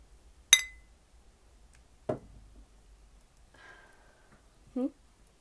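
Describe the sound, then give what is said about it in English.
A single bright, ringing clink of beer bottles knocking together in a toast, followed by a duller thud and a few quiet handling sounds before another soft knock. “Cheers.”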